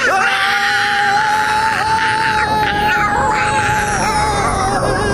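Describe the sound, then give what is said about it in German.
People scream loudly and nonstop while falling, one long sustained high-pitched wail holding a nearly steady pitch with small wavers, unbroken from start to finish. “Es reicht, hör auf zu schreien.”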